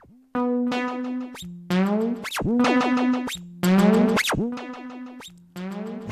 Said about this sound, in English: So we also have a distortion unit.